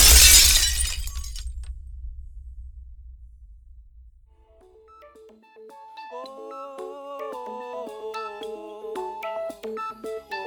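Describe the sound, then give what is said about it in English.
A person crashes through a third-floor apartment's glass window: a loud, sudden crash of shattering glass bursts out at the start, trailing into a low rumble that fades, followed by bright, tinkling melodic tones. “I watched my body sprint across his apartment and, like, went through his glass window on the third floor.”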